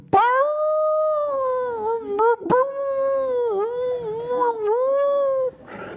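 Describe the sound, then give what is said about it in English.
A sled dog howls in one long, wavering note that rises and dips, fairly loud, with a brief catch midway before carrying on for several seconds. No one speaks. “And there were three dogs in front of this sled. And so I did all that, and the dogs took off.”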